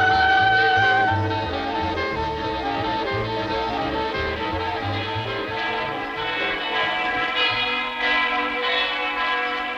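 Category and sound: signal or alarm, bell ringing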